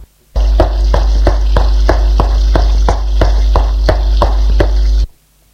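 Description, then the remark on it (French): Loud, steady hissing of gas escaping from the gas hose of a kitchen cooker, running for about five seconds with a regular rhythmic pulsing roughly twice a second, then cutting off abruptly. No one speaks. “Le sifflement est encore plus fort. Il provient d'en bas.”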